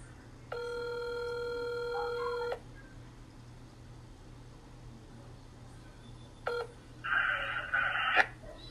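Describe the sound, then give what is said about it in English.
A phone line rings once with a steady two-second electronic tone, then falls quiet before a brief burst of buzzy, crackling line tones near the end. No one picks up: a call to a coach who does not answer his phone. “As usual, Coach does not answer his phone.”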